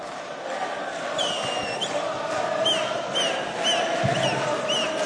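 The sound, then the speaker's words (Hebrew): A large crowd at a Simchat Beit HaShoeva celebration at Binyanei HaUma in Jerusalem claps and cheers for a performer in a steady, dense roar that holds for several seconds, with shrill whistles cutting through again and again. “איפה מחיאות כפיים …, חבר'ה?”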